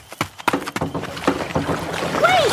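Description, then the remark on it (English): Several hollow thuds and knocks as someone jumps into a small boat to catch a ride give way to steady sloshing water noise, with a short high squeaky whistle near the end. “I'm going to try to jump into the boat the same second she does.”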